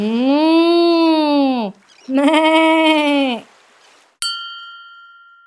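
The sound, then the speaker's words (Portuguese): A sheep bleats twice, loud, each cry long and wavering with a short pause between, followed by a bright bell-like ding that rings out and slowly fades. “As vacas e as ovelhas seguiam atrás.”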